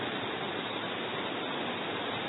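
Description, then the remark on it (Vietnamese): A dense, steady roar of heavy rain, an unbroken hiss with no gaps or individual drops standing out, holding the same loudness throughout and with no voices over it. “Các vị mưa làm gì mà mưa to thế, thôi giảm bớt mưa đi, mưa mọi người không nghe được.”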